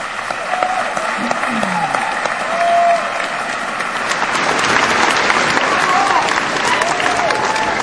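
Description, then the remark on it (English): A large audience applauds steadily at the 41st commencement of the San Luis Obispo County Community College District, a dense, even wash of many hands clapping that holds strong for the whole stretch, with faint voices and a few brief tonal sounds mixed in. “Now you may applaud.”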